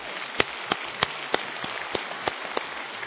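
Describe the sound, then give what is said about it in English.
A crowd claps together to give God a hand, in a dense, steady patter, with a few sharper individual claps standing out at irregular moments. No one speaks over it. “Yeah, you can clap and give God a hand for that.”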